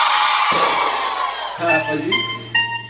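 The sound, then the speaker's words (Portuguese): A crowd of single women screams and whoops loudly in a dense, high-pitched burst lasting over a second, then a sustained tonal voice or music takes over as the shrieks fade. “Agora eu só quero escutar o gritinho das solteiras.”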